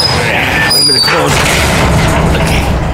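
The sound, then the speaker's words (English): A heavy garage door rumbles and rattles as it closes, with a loud, steady mechanical roar throughout and brief higher squeaks partway through. “And see that garage door? That's going to keep everybody out.”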